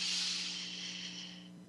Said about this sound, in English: And I'm taking another deep breath in and slowly breathing out through my mouth. And I'm taking one more deep breath in